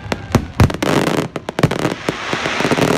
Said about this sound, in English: Fireworks along the beach were spectacular, streaking the sky with stripes of red and blue, and starbursts of bright white light.